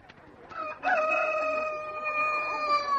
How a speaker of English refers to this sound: Oh, for goodness sake, what's all the excitement? One of the chooks crowed. We must see which one it is.